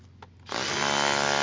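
A hammer drill kicks in after a brief quiet moment, then runs steadily with a loud, close, gritty droning rattle as it works into gravel.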